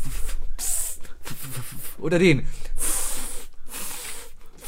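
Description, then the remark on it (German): A voice imitates a lawn sprinkler with a string of sharp, rhythmic hissing bursts separated by short gaps, broken briefly by a spoken question partway through. “Welchen Wassersprecher machst du lieber? Magst du den hier?”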